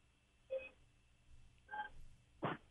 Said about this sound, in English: So let's hear what your horn sounds like. Okay. Are you there? Yeah. Did you hear my horn? No, you can keep it in your car. Just like phone inside the car. Let me hear your horn honk. I want to make sure you didn't cheat.